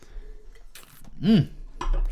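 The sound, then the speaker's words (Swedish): Glasses clink together in a toast, with a couple of short, bright clinks against a quiet background. “Skål på det! Skål! Kände du sönder glaset?”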